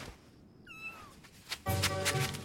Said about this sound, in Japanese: 何？黒猫だと？ 黒猫？どこにいるの？